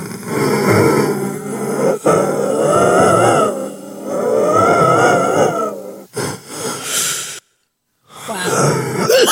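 Long, slow, unforced breaths out with a deep, voiced, groaning tone, several sustained swells separated by brief pauses, loud and eerie, followed by a sudden silence before another exhale begins.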